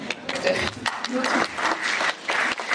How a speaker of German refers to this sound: Applaus wird toleriert.